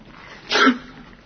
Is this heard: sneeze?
yes